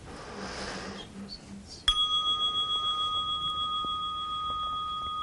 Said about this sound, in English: Okay. Here we go. There'll be a little bell ring.